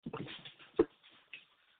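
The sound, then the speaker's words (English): A large male dog whimpers and grumbles softly, with a sharp thump partway through as it shifts its weight, then quieter rustling movement. “He's such a big ass dog.”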